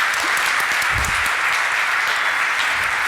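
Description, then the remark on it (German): A crowd in a hall applauds steadily, a dense, even patter of many hands clapping at once, sustained at full volume throughout with no voices rising above it, applauding the people who prepared the content of the presentation. “Also applaudiert gerne mal für die lieben Menschen, die das alles inhaltlich gemacht haben.”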